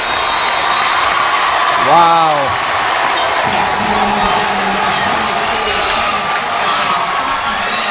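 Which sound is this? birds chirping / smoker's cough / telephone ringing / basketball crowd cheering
basketball crowd cheering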